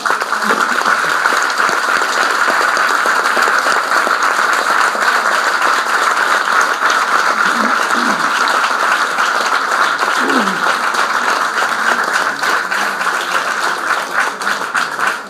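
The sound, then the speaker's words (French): Sustained audience applause concluding an evening event, a dense steady wash of many hands clapping at an even loudness for about fifteen seconds, with a few faint voices mixed in. “Je crois que vos applaudissements vont fournir tout simplement la conclusion de cette soirée tout à fait exceptionnelle et extrêmement nourrissante et enrichissant pour nous tous.”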